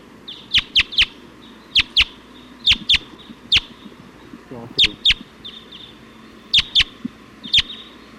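A flock of about 20 wild Type 2 birds, perched at the top of a pine tree, gives sharp, high, clipped calls, often in quick pairs or clusters at irregular intervals, standing out loudly against a steady low background hiss.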